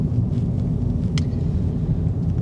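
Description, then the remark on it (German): A steady, dense low-frequency rumble inside a car driving during the day, at nearly 20 degrees, windy and a bit humid. The rumble is constant throughout with no speech, plus a brief faint high click about midway. “Ich bin wieder im Auto unterwegs, es ist Tag.”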